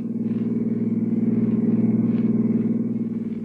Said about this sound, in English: toss your luggage into the back of her car, swing out of the city and wind your way along the lonely Skyline Drive, high over the sea.